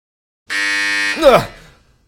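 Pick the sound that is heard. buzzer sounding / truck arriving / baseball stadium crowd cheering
buzzer sounding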